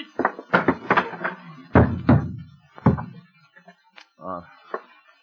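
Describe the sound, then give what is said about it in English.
A flurry of dull, heavy thuds of fists punching a person, coming in an uneven burst, followed by a few scattered blows and a brief groaning voice. “Come on, I didn't hit you that hard.”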